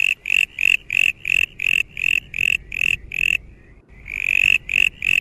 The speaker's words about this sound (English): And if it is, you'll know you've got a brown tree frog, but unlikely to be the South Australian version, nor the Kangaroo Island version, but the sort of good old original in terms of science.